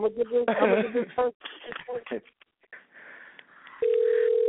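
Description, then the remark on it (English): Muffled voices talk briefly, then after a quiet pause a steady, low-pitched telephone ringback tone of an outgoing call starts and holds unbroken to the end. “Hey, look, listen to who just answered that phone.”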